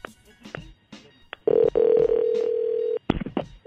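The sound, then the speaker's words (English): A phone call to a woman being dialed: quick keypad tone blips, then a steady, loud ringback tone holding for about a second and a half, followed by more short dialing beeps. “All right, well, let's call her.”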